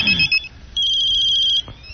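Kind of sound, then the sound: signal or alarm, cell phone ringtone playing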